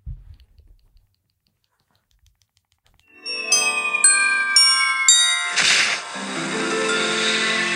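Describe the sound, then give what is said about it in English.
After about three seconds of silence, bright bells ring out in four evenly spaced chiming strikes, then a shimmering jingle swells and settles into a sustained, ringing musical bell texture, from a Christmas sound effects video. “Are those bells or is that like...”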